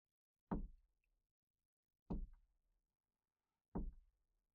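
Three heavy knocks on a door, evenly spaced about a second and a half apart, each a deep solid thud that fades quickly into silence, with no voices.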